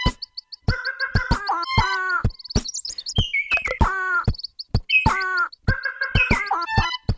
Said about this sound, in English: He finishes up with the Madagascar long-eared owl, the red-fronted quaw, and the Sayumanga sunbird.